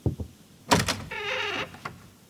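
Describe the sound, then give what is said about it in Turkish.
A couple of soft footstep thuds, then a sharp clunk as a door is opened, followed by a steady whirring creak and a final click, with no voices. “Akabinde ayak sesleri. Ardından kapı açıldı.”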